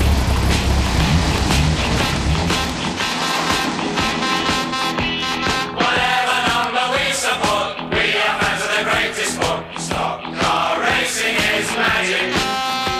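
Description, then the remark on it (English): Loud stock car racing engines roar continuously at Wimbledon Stadium in London, their pitch climbing and dropping as the cars rev and sweep past through standing water about a foot deep on the track, several motors overlapping in a dense, raw growl with no talking. “You can come here for greyhounds and for car boot sales, but on alternate Sundays throughout the winter, it's the London home of stock car racing.”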